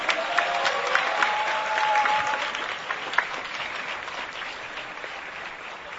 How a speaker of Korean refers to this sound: 뜨거운 박수로 모시겠습니다.